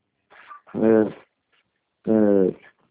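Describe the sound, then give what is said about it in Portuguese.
Two loud dog barks, each a short harsh burst about a second apart, with a brief faint sound just before the first one and no talking. “Ai, cachorro, não é minha.”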